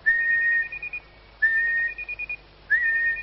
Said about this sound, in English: That was my new keyring, dear. You see, when you whistle, it bleeps to tell you where it is.